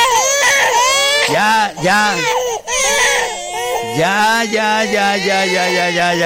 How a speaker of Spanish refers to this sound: Ay, ay, tranquilo. No llores. Pero que es todo esto, todo esto que ves llorando.